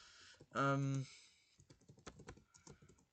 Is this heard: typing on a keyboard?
yes